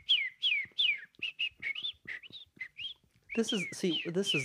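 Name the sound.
whistled bird call imitation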